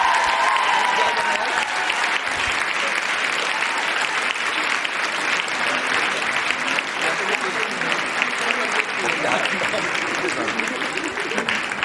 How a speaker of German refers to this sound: Ein Applaus an euch selber, es war schön mit euch, Köln.